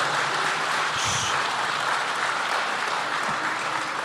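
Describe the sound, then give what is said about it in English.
A crowd applauds steadily for about four seconds at a student government debate, dense clapping at an even loudness with a brief high whistle or cheer near the start and no one speaking. “As I said at the beginning, please hold your applause and cheers until after the debate is concluded.”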